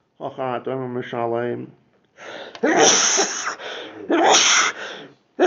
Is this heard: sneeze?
yes